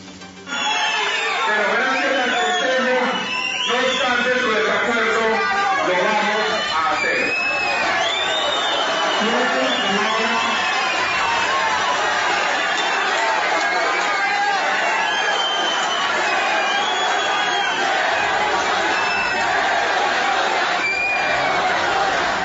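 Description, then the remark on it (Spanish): A dense crowd of many voices shouts and yells over one another without pause, loud and chaotic, with overlapping angry cries and whoops throughout: members of the ETV union shouting insults at Bogotá mayor Enrique Peñalosa during a Bogotá city council session. “El presidente del Consejo de Bogotá, Horacio José Serpa, tuvo que levantar la sesión ante los gritos e insultos de algunos miembros del sindicato de la ETV al alcalde de Bogotá.”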